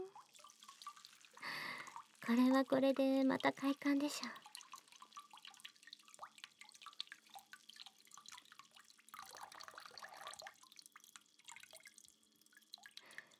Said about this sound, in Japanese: それじゃ優しく流して、弱い水圧と手で優しくこすりながら泡を洗い落とすんですよ。